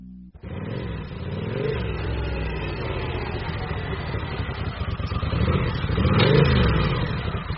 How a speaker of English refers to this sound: On that same Monday in May, at approximately 7:30 in the evening, there came the sound of a motorcycle pulling up outside Horatio Salazar's house.